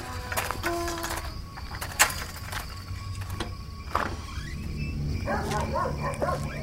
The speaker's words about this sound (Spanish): vamos, deja ya de ladrar. Cállate, me vas a volver loco.